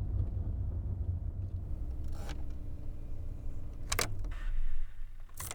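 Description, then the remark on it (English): A car engine rumbles low and steady while the car is parked on a street, with two sharp mechanical clunks, one midway and one near the end, as it's shut down. No one speaks. “Just park the car and turn it off.”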